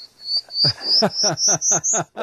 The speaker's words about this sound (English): Let's give her another prairie warbler here.